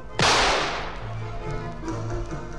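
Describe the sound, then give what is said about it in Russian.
A single loud shotgun blast with a sharp, cracking attack, its roar fading over about a second while low, steady tones hum on underneath. “А ну-ка я сейчас как бабахну в черти из ружьишка.”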